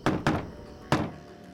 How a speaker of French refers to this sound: Le type des … essaya d'alerter son ami en frappant à la porte d'une façon particulière.